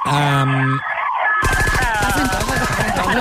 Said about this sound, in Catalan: Espera que passi l'ambulància. Que just passa una, perdoneu-me, es queda anar cap allà uns bombers. Uns bombers.